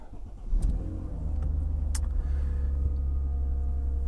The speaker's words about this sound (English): We are in the Deliverator today. This time I got the car right. The little red sports car.